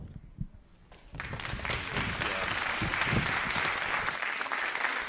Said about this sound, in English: All right, actually, you guys can take a seat, thanks. Yeah, you can clap, that's great.